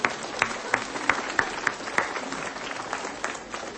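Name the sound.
applause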